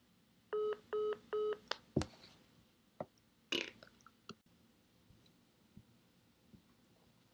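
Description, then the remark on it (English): Three quick electronic phone keypad beeps in a row, each a short steady dual tone, followed by a few scattered clicks and knocks from handling the phone. “I think you're accidentally trying to disconnect the phone when the stay on button is inside your head.”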